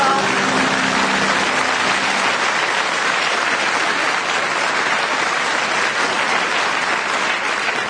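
Loud, sustained audience applause fills the whole stretch, a dense steady clatter of many hands clapping at once, with faint tonal traces of music fading out at the start.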